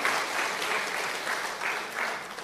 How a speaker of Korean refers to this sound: 아, 이 정도면 박수 치고 우리 기뻐해야 돼요. 우리 지사님 너무 수고하셨습니다. 예, 박수.